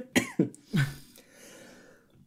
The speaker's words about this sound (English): Sorry, I'm going to cough again.